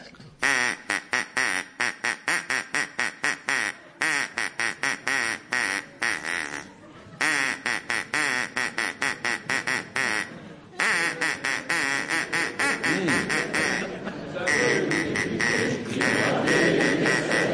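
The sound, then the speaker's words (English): A duck, being encouraged by its owner to perform, quacks loudly and rapidly in long rattling runs broken by short pauses, then the quacking thickens into a dense, overlapping chorus toward the end. “do you all have your ducks with you? Yes. Good. Excellent. Right. Well, Tim, you're to start. Please encourage your duck to perform for us now”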